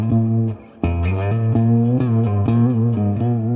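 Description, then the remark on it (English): A short instrumental solo played live on an effects-laden electric instrument: sustained, slightly distorted notes that briefly drop out, then resume with a series of bending, wavering melodic tones, loud. “That's kind of the solo in how it starts.”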